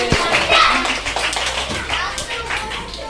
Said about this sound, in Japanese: はい、ではお待ちかねのね、ごっつお給食の時間がやってきました。大拍手。